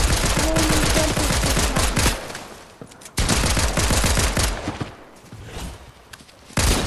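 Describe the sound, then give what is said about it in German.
Rapid bursts of gunfire crackle in quick succession, loud, pausing briefly before resuming in dense volleys, like automatic weapons in a video game firefight. “Ah, Schüsse!”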